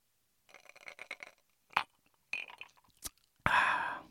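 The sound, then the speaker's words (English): Someone drinks the last sip of a Negroni cocktail, mostly diluted with water: a run of soft wet slurping and swallowing sounds, a couple of sharp clicks like glass or ice, then a loud breathy exhale. “No, it's my last sip right here. I'm just going to finish this right now.”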